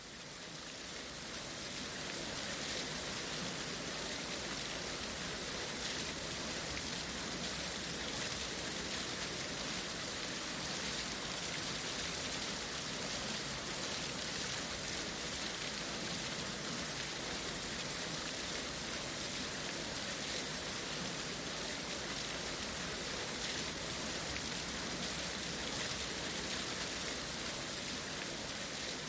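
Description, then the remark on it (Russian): Steady rain falls without pause, a dense continuous hiss that stays even and fairly loud for the whole stretch, with no voices over it. “В окнах зажглись огни, поднялся ветер, пошел дождь, наступила сырая холодная ночь.”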